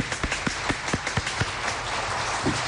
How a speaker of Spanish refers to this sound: El aplauso para él, por favor